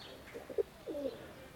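Pigeons being fed coo, a couple of short low coos followed by a longer warbling one, over a faint outdoor background with no talking.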